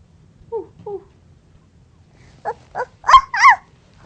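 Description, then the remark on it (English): A voice, likely a small child's, imitates a dog barking: two soft yips, then four louder, sharper woofs in quick succession, with a quiet background. “Puppy?”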